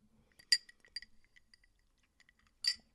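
A glass clinks sharply twice, with faint small taps and light liquid sounds in between as someone sips water. No one speaks.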